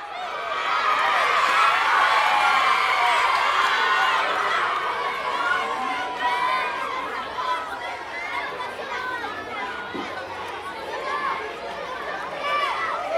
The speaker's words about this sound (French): Ambiance dans le stade avec la remise des prix aux élèves des écoles primaires.